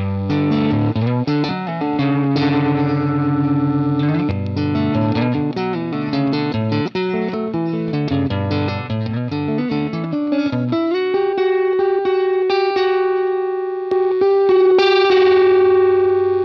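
An electric guitar with a mildly overdriven, edge-of-breakup tone, with reverb on, plays dense minor-second chords that ring out in a sustained, bell-like way, with steady strumming and no voices.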